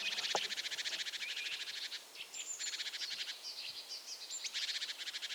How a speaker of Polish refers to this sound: Tutaj blisko jest sikora bogatka, która się niepokoi. Tak tylko na chwilkę, no nie ma teraz gniazda, nie ma lęgu, więc nie ma powodu, żebym tutaj jakoś zagroził jej w jakiś sposób. Ale ten dźwięk to jest alarmowy.